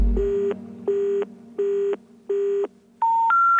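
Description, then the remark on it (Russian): Telephone line beeps heard on a phone handset from the other end of the line: four even, mid-pitched tones pulse on and off at a steady rhythm, then three short tones step upward in pitch. No one speaks. “На трубке в другом конце ты оставляешь мне гудки.”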